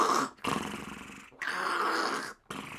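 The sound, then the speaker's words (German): A voice imitates a whale filtering water through its baleen: three long, rough, gurgling rasps in a row, each separated by a brief pause, fairly loud. “Ich habe jetzt gerade im Kopf so einen Wal, lass uns über Wale reden, einen Wal, der halt daneben sitzt und der das Wasser so...”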